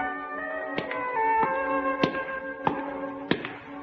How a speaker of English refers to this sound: These are your footsteps. You're coming home.